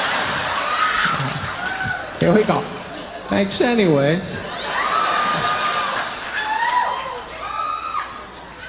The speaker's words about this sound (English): That clapping's messing my head up, man. I appreciate it, but I was trying to think of the next line. I'm like, all I hear is clapping.